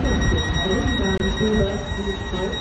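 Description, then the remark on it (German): A shrill electronic door warning tone of a newer Berlin S-Bahn train sounds steadily over the rumble of the train interior, with indistinct voices murmuring in the background. “Denn mit Einführung der neuesten S-Bahnen, die seit 2021 unter anderem auf der Ringbahn unterwegs sind, ist aus dem harmonischen Zweiklang auf einmal dieses für manche schon fast penetrant wirkende Piepsen geworden.”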